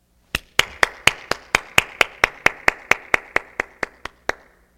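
An audience clapping hands together in unison, about seventeen sharp, loud claps at a steady, even beat, each with a short ringing tail, then stopping. No one speaks.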